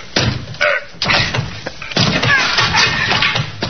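A police officer, ordered by an inspector holding a search warrant, rams the locked door of an absent tenant's room with his shoulder: several loud, heavy thuds in quick succession, followed by a longer crashing, rattling burst as it gives way.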